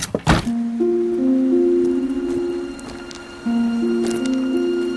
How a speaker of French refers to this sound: Allez, on va quitter cette surtout grange. La double porte pour, justement, rentrer par le haut. Hop là. Voilà, on referme en quatre.